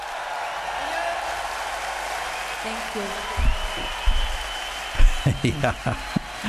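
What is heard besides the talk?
audience applause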